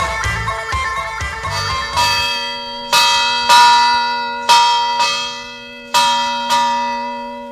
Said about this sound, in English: the ship's bell means one thing on Celtic Cafe